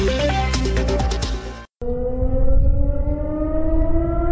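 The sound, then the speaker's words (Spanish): After a short burst of music cuts off, an air raid siren wails steadily and loudly in the city of Kupiansk, its pitch gliding slowly upward in one sustained tone with a rumbling background and no voices. “Las sirenas antiaéreas son parte de la vida cotidiana de las 3.500 personas que permanecen en Kupiansk.”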